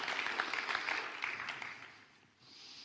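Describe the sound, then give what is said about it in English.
Crowd of people clapping together in a church (Found Church), a dense patter of many hands, steady at first and then thinning and fading out toward the end. “And I want you to give yourself a clap, because you are worth it and you are worth honour.”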